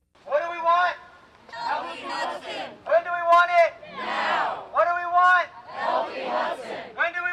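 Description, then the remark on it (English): A crowd of protesters chants outside the Saratoga Hilton in Saratoga Springs, demanding the EPA remove PCBs from the Hudson River: loud, rhythmic unison, shouted phrases rising and falling in repeated bursts with brief pauses between. “The crowd of protesters outside the Saratoga Hilton had a simple message for the EPA: remove PCBs from the Hudson River.”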